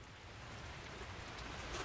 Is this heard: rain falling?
yes